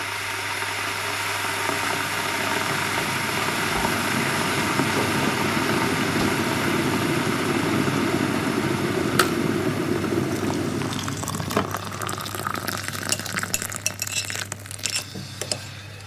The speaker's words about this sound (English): Oh, just woken up. Putting the kettle on.